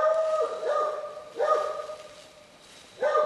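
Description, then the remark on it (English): A dog barks three times at uneven intervals at a barn in rural Franklin County, Virginia, near midnight, moderately loud, over a steady faint tonal hum in the background. “The dog hears us sneaking up on the barn.”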